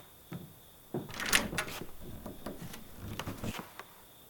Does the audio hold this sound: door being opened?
yes